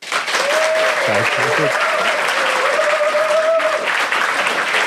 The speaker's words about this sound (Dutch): En heel speciaal welkom natuurlijk aan jullie. Dank jullie wel voor jullie spontane applaus ook